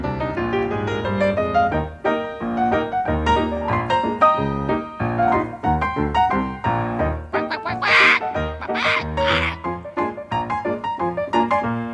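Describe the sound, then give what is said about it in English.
A voice imitates a hen's squawking in a steady run of loud, nasal cackles, with a few harsher, breathier squawks bursting out near the end. “Let me hear a hen that's a squawking.”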